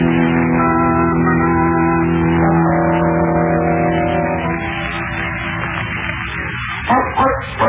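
A car engine drones steadily as the car drives out of a park with the dog Prince aboard, its hum shifting in pitch partway through, with a few short bumps and knocks near the end.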